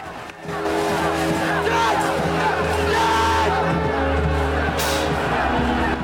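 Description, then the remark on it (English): A large crowd of miners shouts and clamors continuously for several seconds, many overlapping voices blending into a loud, dense roar with a low rumble underneath. “Jumping down, Tony charges back through a crowd of miners to a tall, spiky metal fence at the back of them.”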